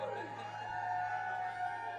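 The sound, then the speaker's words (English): An evening audience screams and cheers on request in a sustained, high-pitched roar that holds steady for about two seconds, with a low electrical hum running underneath. “Anyone out there that breathes oxygen, let's hear some screams.”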